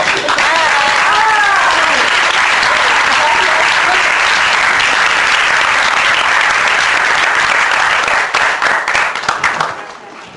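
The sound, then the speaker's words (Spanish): A roaring burst of applause, dense and steady for about eight seconds before thinning out. Some cheering or whistled voices rise through the clapping near the start. “Bueno, pues y un aplauso muy fuerte.”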